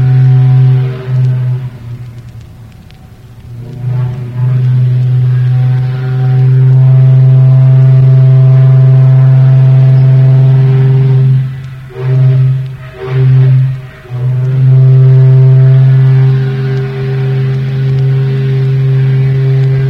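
The whistle of the towboat Denora on the Monongahela River blows loud, deep and raspy: a long sustained blast broken by a few short stuttering toots, then sounding steadily again, with no talking.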